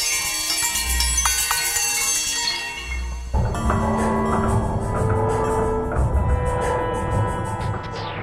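Neighborhood sounds, such as reggaeton music from West Indies auto body shops, filtered through a device to sound like bells: shimmering, bell-like metallic tones ring and overlap in a dense wash, with a low rumble underneath; midway the texture shifts to brighter, thicker chiming with sustained pitched drones, and no talking.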